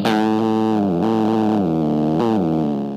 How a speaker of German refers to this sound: Die Ozeane sind voller Geräusche, auch natürlicherweise. Viele Tiere im Meer produzieren Geräusche, meist eher leise, wie hier ein Clownfisch.